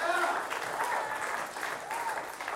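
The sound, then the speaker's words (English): A large audience gives God a round of applause, clapping steadily and continuously in a dense, even wash, with faint voices and cheers mixed into the crowd noise. “I'd say give God a round of applause for what he's made you to be.”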